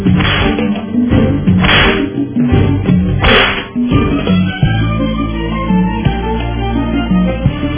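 Three sharp, loud whip cracks snap out at roughly even intervals in the first few seconds, set against a steady, dense low rumble that continues after the lashes stop.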